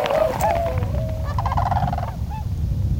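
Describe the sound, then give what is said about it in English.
Tundra swans calling in a chorus of overlapping, high, reedy hoots and whistling honks, repeated throughout over a steady low rumbling background, with no talking. “Those are tundra swans. Tundra swans. They used to be called whistling swans.”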